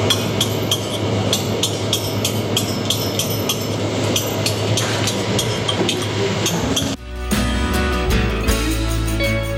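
Stone carving in a quarry: sharp, ringing strikes repeat at a steady pace, roughly two per second, over a constant low rumble that grows deeper and heavier toward the end. No one speaks.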